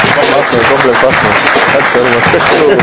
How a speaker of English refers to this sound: Can you receive him with a clap of hands? He's an evangelist,